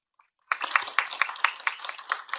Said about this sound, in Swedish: Seminariet är därmed slut. Jag tycker vi kan ge alla medverkande en applåd.